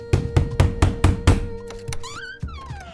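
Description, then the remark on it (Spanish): Five firm, evenly spaced knocks by the FBI on the door of the sister of Ángel Leoncio Reyes Reséndiz in New Mexico, in quick succession, followed by quieter shuffling sounds and a faint gliding, whistle-like tone. “el FBI obtuvo información importante, como su verdadero nombre, con lo cual tocó la puerta de la hermana de Ángel, quien vivía en Nuevo México.”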